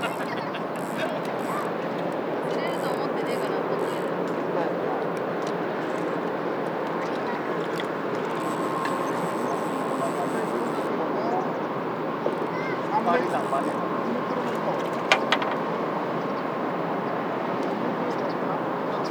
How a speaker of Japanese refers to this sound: 遠くで巨大なフェリーの轟音がする中、イワシ、アジ、シャコ、ハゼが釣れているようです。